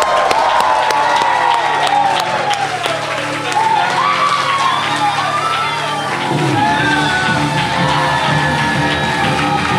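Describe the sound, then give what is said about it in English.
A loud, sustained round of audience applause for a performer introduced at a show fills the whole stretch, dense clapping mixed with cheers, whoops and rising yells from the crowd. “So let's go ahead and give a nice big round of applause”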